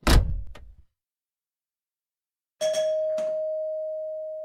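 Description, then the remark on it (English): A woman opens a door with a clunk, followed after a short pause by a bright bell chime that rings out and slowly fades. No one speaks. “She opens the door.”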